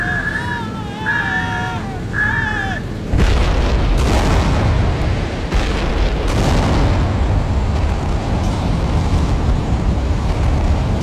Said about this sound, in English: Terrible explosions, men are pulped out of all shape, others gutted from chin to crutch, neat as any herring. One poor soul is blown high into the air, arms and legs windmilling crazily.